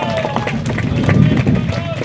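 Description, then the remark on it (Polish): A crowd applauds with dense, steady clapping that fills the whole moment, fairly loud, with some voices mixed faintly underneath. “Wiadzi brawa do Was przede wszystkim.”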